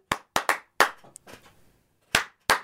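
Sharp hand claps ring out in an uneven rhythm, about six in all, with a short gap in the middle and two final claps after a pause, applauding someone's whistling.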